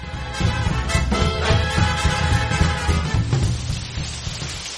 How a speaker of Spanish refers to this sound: Ahora llovía más si cabe, mucho más.